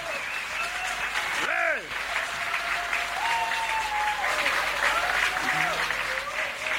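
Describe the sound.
Steady audience applause fills the whole stretch, a dense wash of clapping with a brief whistle-like tone sweeping through early on and faint voices beneath.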